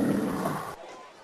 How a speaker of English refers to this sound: Oh, gotta get a growl in here.